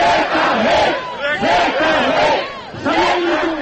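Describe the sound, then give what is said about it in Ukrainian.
A crowd of opposition rally participants chanting slogans together on Freedom Day, marking the anniversary of the Orange Revolution, in loud, rhythmic bursts, several shouted phrases in a row with brief dips between them. “Вигукували учасники мітингу.”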